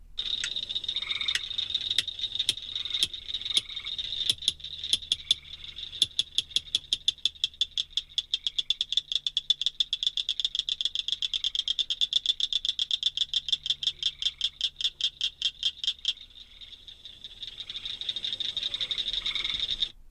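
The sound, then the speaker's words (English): A cricket frog calls with sharp, metallic clicks, first spaced apart, then quickening into a long rapid train before stopping, leaving a soft steady background hum. “Because of rapid decline in numbers, the cricket frog was placed on the Wisconsin Endangered Species List in 1982.”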